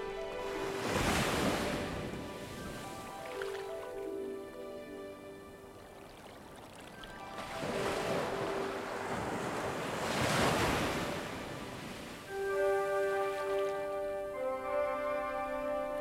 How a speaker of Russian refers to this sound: Океан дышит у наших ног, слегка прикасаясь к ним. Волна легкое прикосновение. Еще волна. Океан омывает ваши ноги и тут же отступает.